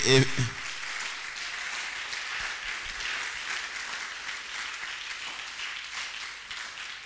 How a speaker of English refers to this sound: Oh, come on, put your hands together. Oh, no, you're not clapping joyfully.